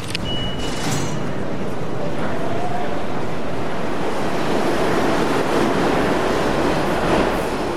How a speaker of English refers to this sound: Here's another from the train, a swiping of the Metro card as you hear the train rumbling.